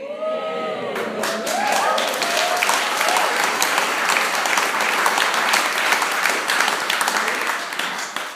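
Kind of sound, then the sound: crowd, audience clapping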